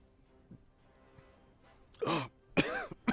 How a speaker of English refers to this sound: I'm choking on my fizzy water and my peanut butter. Ugh.